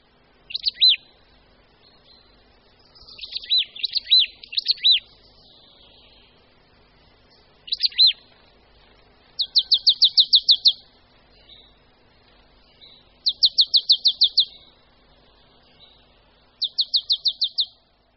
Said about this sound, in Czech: Zpěv síkory babky zní spíše jako klapavé děb, děb, děb, či pískavé cie, cie, cie.